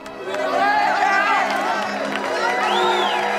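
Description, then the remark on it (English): A crowd of young men waiting outside a theatre stage door whoops and cheers appreciatively as two girls in fashionable hats and coats step out into the chill air, a dense overlapping mix of rising calls and chatter, steady and loud for a few seconds. “The men respond appreciatively.”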